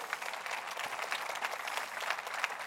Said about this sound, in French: Quelqu'un devrait dire « Amen » et applaudir avec moi.